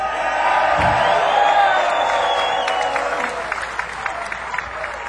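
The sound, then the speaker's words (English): A live audience in Buffalo applauds and cheers loudly, with whoops and shouts rising over dense clapping before the noise gradually thins out toward scattered claps. “And what a lovely crowd.”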